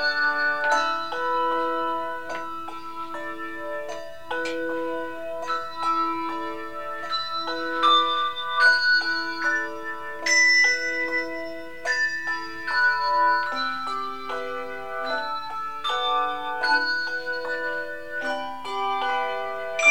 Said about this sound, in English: You can see the Bells of St. Vrain Handbell Ensemble in action the third Sunday of every month at the First Congregational United Church of Christ in Colorado Springs.